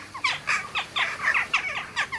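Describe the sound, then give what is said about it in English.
A rapid series of sharp, squeaky calls from a jackdaw, a European bird like a compact light and dark gray crow, about eight to ten short chirping notes in quick succession, moderately loud and clear with no talking. “The catchy name Jackdaw belongs to a European bird that looks like a compact crow drawn in shades of light and dark gray.”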